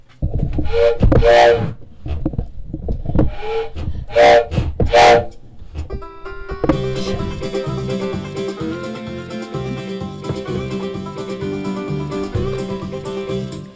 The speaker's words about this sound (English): Is that the train I hear? Could it be drawing near? Could it be the Heaven Express?